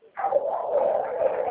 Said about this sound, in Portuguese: Os cachorros estão animados hoje, hein? Oi? A cachorrada aí dos vizinhos está animada. Os cachorros aí, tá tudo latindo, tem aquele portão aí, hein?